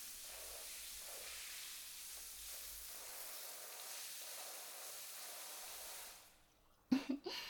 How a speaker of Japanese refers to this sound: じゃ、最後に洗い流して。後ろも、前の方も、しっかり。泡残さないようにね。